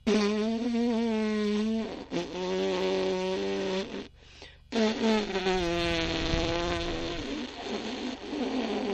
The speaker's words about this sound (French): Et une fois que j'ai fait ça, bah dis donc, je fais péter mes lèvres, mais très très de façon très pincée, donc ça va donner quelque chose comme ça.